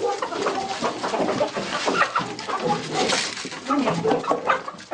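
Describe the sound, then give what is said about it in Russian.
A group of hens clucks and chatters nonstop, their overlapping calls forming a busy flock sound with no one speaking, at feeding time. “курочки и кролики. Первое кормление рано утром перед школой, второе вечером.”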